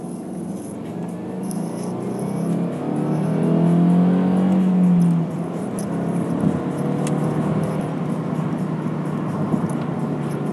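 A car engine drones steadily from inside the vehicle moving slowly, below the legal speed limit, on a country road at night, swelling into a louder, rising rev for a couple of seconds before easing back to a constant rumble with road noise.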